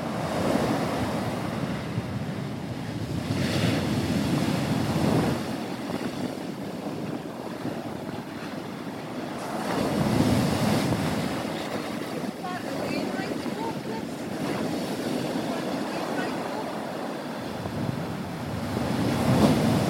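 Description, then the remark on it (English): North Sea waves break and wash ashore at Robin Hood's Bay in repeated surges, with gusty wind buffeting the microphone and a constant roar of surf filling the scene. “It looks like it will be quite tricky to launch a boat into those waters, doesn't it?”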